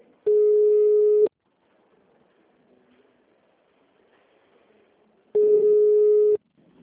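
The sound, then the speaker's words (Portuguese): A telephone busy signal: two loud, steady one-second tones at a single mid pitch, separated by about four seconds of quiet, with a faint low murmur in between. “Gente, eles não atendem o telefone.”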